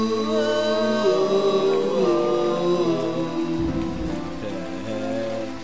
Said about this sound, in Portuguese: enquanto chove lá fora, enquanto chove lá fora, está chovendo, chovendo, chovendo.